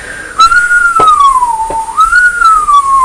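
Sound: whistling imitating the wind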